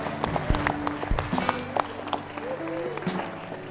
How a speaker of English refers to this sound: Oh, give God a hand clap for that. I wouldn't mind having that myself. Come on, you can do better than that.